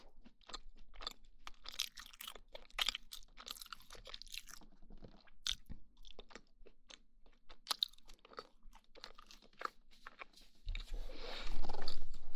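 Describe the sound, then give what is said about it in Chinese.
Thick square toast, cut into pieces, being chewed, with a steady run of sharp, crisp crunches at an uneven rhythm and no talking. A louder, sustained rustling noise takes over near the end. “对了，这种吐司是厚的，这还是一整个正方形，我这切开吃的”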